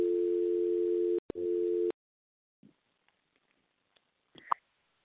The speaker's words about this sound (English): Oh, sorry. I heard a dial tone there. Yeah, I did too.